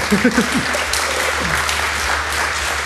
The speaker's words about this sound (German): Dann kommt mal auf die Bühne. So, einen Applaus für